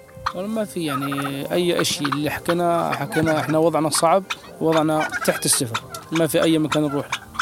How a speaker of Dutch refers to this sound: De kalkoens scharrelen rond, drinken uit een bak met modderwater.